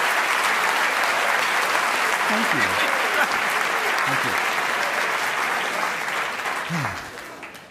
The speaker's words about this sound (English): And let's give all four of these people a nice round of applause. Thank you very much.